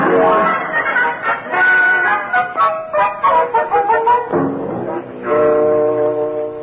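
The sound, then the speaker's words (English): A man imitates a duck with a steady run of loud, nasal quacks and honks, nearly continuous for several seconds, with no other talking, as the Kingfish character acts out 'duck fever'. “That's just what the kingfish is doing. Duck fever.”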